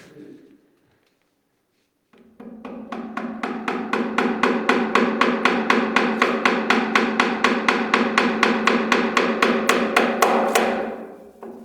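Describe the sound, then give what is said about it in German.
Rapid, steady hammering of tiny nails into a barrel, roughly four sharp metallic taps per second for about nine seconds, loud, with no one speaking. “Wenn ich jetzt zu doll hämmer, dann platzt es, oder?”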